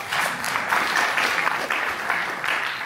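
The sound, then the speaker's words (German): Steady applause from an audience after the names of elected Arad county board members are read out, a dense, continuous patter of many hands clapping at an even loudness throughout, with no voices standing out. “Applaus.”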